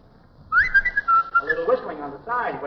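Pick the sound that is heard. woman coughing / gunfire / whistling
whistling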